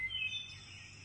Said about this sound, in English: Come, let us sing with Gul and the pita bird. Wheat twew, wheat twew.